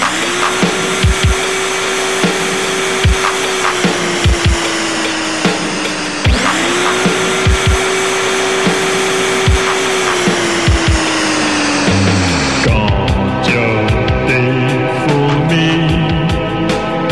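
A vacuum cleaner runs loudly with a steady whooshing roar and humming motor pitch. It cuts out briefly and restarts, and near the end its tone drops and turns rougher.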